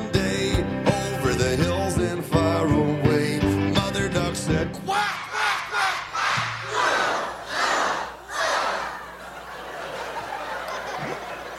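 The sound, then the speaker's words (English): A few seconds of bouncy music from a song about little ducks give way to an audience loudly quacking like ducks along with the song, voices imitating the call in a series of rhythmic, rising-and-falling bursts that gradually fade. “Now, I have to warn you that we're in big trouble here, because if you don't quack a lot louder than that and go, with a lot more feeling than that,”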